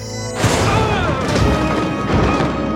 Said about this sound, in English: and then when he was thrown free from the melee, he taps his communicator badge, and it triggers this improvised explosive